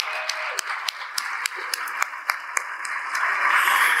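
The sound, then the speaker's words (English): An audience at a venue applauds steadily for being there at the first Columbus Storytelling Project, with many hands clapping in a dense wash and a few sharper individual claps standing out, the sound swelling slightly toward the end. “And if you're sitting next to somebody who is pretty, or if you're pretty yourself, I just want you to give you or them or me a round of applause for being here tonight.”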